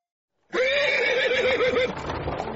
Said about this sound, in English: A horse-drawn carriage is rattling down the road, and in it, a young man stares out the window. He's in America, far from his London home. The year is 1860.